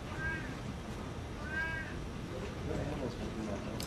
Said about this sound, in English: That's Kilele, the cat. He's protesting his unjust imprisonment. Yes. Free Kilele. Does his tone ever change? Is it just that one note? Pretty much just that one.